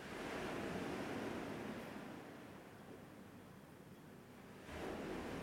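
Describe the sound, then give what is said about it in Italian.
Steady roar of sea waves washing onto the shore, a broad rushing surge that eases slightly in the middle before swelling again, heard alone without any voices. “Però ecco, se vi chiedete che cos'è questo rumore di sottofondo, sì, sono onde del mare effettivamente.”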